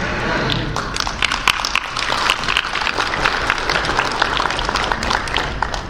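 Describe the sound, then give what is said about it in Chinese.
An audience applauds steadily for several seconds, a dense, even patter of many hands clapping at once, fairly loud and without any talking over it. The applause follows a married couple's shared testimony and is offered as glory to God. “好，虽然他们夫妇不在我们现场，但是我相信我们的掌声啊，也是归荣耀给神啊，相信他们也会很欢喜。”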